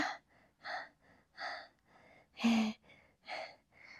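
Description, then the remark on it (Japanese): Heavy, out-of-breath panting: quick, breathy inhales and exhales in a steady rhythm, about eight breaths over four seconds, with one louder, sharper gasp in the middle. No talking. “息切れがすごい。”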